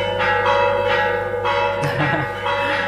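church bells ringing

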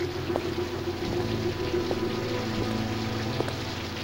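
heavy pouring rain

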